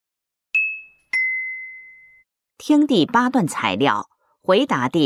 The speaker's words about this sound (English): The bell's ringing. That must be our partners.